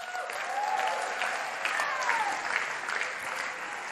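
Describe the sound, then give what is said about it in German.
An audience claps steadily for a few seconds for a Bible reading of 2 Samuel 6, verse 6, a dense, even patter of many hands with a few faint whistles or whoops rising through it. “Applaus für 2. Samuel 6, Vers 6.”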